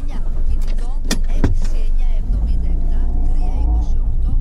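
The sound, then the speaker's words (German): A car drives out of a village with a steady, loud low engine rumble, broken early on by a couple of sharp clicks, then a humming engine tone that shifts in pitch as it accelerates. “Wir fahren aus dem Dorf heraus.”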